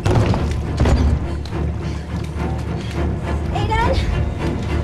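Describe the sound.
A locked door being forced open: loud, dense banging and crashing blows pile up over several seconds, with a voice calling out beneath the noise.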